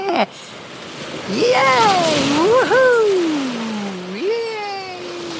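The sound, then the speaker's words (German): A steady roar of ocean surf washes through the whole stretch, loud, while a surfer whoops and cheers excitedly over the crashing waves. “Alter, so eine geile Welle.”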